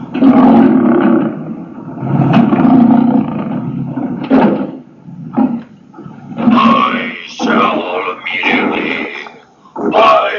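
A series of loud, growling roars like a lion's, from a fearful beast with a lion's head and a man's body, coming in long rough bursts with short breaks between them, forceful throughout.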